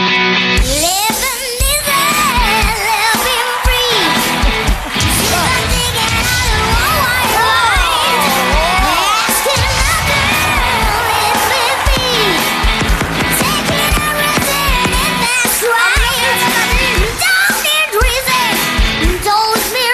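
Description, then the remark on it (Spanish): A seven-year-old child from Madrid sings loud, sustained notes over a dense, distorted heavy metal backing, in tune even on the highest notes, the held lines wavering into a final vibrato as the music pounds on without a break. “Es una armonía perfecta, hace el vibrato final de los típicos del heavy metal perfecto. No grita, modula.”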